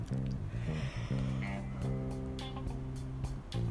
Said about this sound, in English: I'm sorry about the yawning.